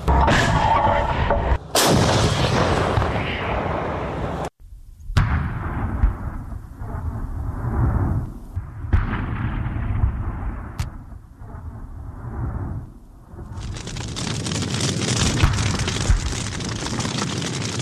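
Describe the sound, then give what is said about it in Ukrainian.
Heavy artillery fires from a firing position with the 40th Brigade during combat work. It booms out in loud, sharp blasts, each followed by a rumbling roll and a long, noisy wash of sound, with no voices in between. “Ми зараз знаходимося на вогньовій позиції разом з 40-ю бригадою. Відбувається бойова робота.”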